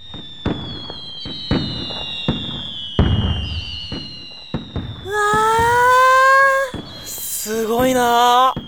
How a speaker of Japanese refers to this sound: 花火綺麗だ。 綺麗。花火綺麗。